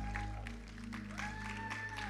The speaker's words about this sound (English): Those online, can we clap for our online audience? Welcome to church. You can make it louder, they can hear you.